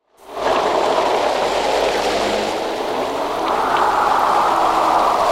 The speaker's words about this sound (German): Der Wind peitschte Regentropfen gegen die bunten Kirchenfenster von St. Abigail. Es war jetzt der 5. Tag in Folge, dass es schüttete wie aus Kannen.